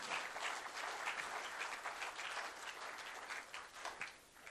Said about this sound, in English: I think give him a round of applause for that. That was really cool.